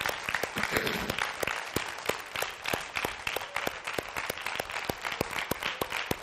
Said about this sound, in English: Can we put our hands together for him one more time?